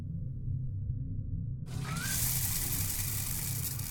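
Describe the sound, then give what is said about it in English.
A low background hum, then a hot water tap opens partway through and water gushes out in a steady hiss that continues to the end, with no talking. “Follow me and I'll get the hot water running.”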